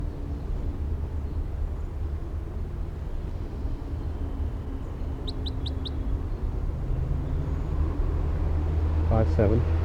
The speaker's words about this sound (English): They're recording the wild bird with filter 3 on. Very weak. It's kind of windy right here now.